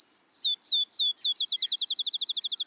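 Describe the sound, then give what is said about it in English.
A bird's song of clear, high whistled notes that start slow and spaced, then quicken into a rapid accelerating trill, like a ping-pong ball bouncing to rest. Clean, no voices. “which sounds like a ping pong ball bouncing and then coming to rest”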